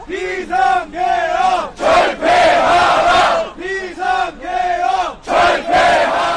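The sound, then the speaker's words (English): A large crowd of protesters at the National Assembly, the seat of parliament, chants the slogan "Abolish martial law" in unison as military helicopters hover overhead, loud, rhythmic bursts of shouted voices repeating in waves with brief pauses between phrases. “Their chant was "Abolish martial law," a message that was heard loud and clear inside the building”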